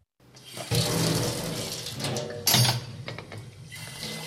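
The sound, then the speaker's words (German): Tap water runs steadily into a sink with a broad hissing splash, briefly intensifying as teaspoons and white plates are rinsed of breadcrumbs and jam under the stream, at a correctional centre in Le Landeron, Switzerland; fairly loud, with no voices. “Er spült mit dem Wasserstrahl die Brotkrümel und Marmeladenspuren von den weißen Tellern.”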